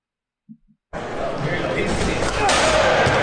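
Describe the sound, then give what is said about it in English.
A brief pair of soft thumps, then a dense wash of basketball game noise with ball bounces and sneaker squeaks amid a loud, echoing crowd rumble that grows slightly louder. “I think that squeaks from Basketball.”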